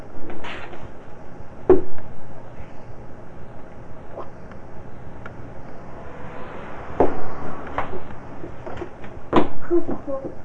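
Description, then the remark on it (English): A refrigerator door is pushed open with a few clunks and rattles, then more knocks near the end, against a low hum with faint voices in the background. “Push the door all the way open.”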